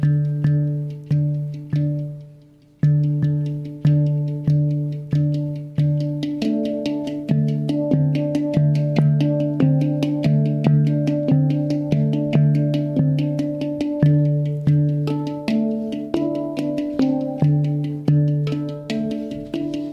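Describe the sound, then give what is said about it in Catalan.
Deep, resonant bongs struck again and again, each ringing out and fading before the next. Later strikes come faster and overlap, layering several humming tones. No voices. “Sense roba, escolto un bong que ressona a la meva caixa toràcica.”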